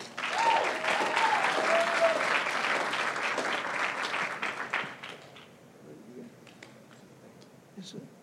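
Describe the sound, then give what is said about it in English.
A crowd bursts into loud, sustained applause with some whoops and cheers for a man being introduced to speak, then the clapping fades out over the last few seconds, leaving scattered claps and murmurs. “But y'all give a big round of applause for my boy”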